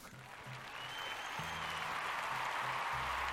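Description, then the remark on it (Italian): A crowd claps steadily in applause for the heroes who take on a yearly race competition, the applause growing fuller and more sustained as it goes, with a dense wash of hand claps and a low, faint rhythmic hum underneath. “Tanti applausi questo per gli eroi.”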